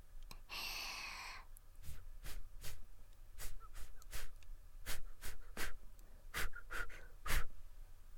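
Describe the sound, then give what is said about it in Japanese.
A long, airy breath blown at the listener's neck, followed by a series of short, sharp puffs of breath repeated at an uneven rhythm, intimate, with no talking. “へいへい、お姉ちゃんの吐息攻撃を食らえ。首元を狙って。”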